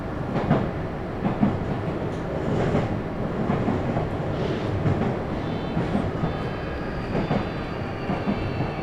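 A steady rumble of a train approaching Sakurabashi stop as it rolls along rails, with broad low-end roar and faint rhythmic clatter of wheels over joints, continuous and fairly loud throughout with no voices.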